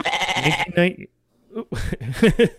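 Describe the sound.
A goat bleating sound effect: a loud, wavering bleat, followed by a brief silence and then a person talking.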